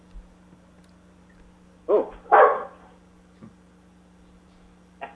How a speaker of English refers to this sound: The dog just barked at cats, you see.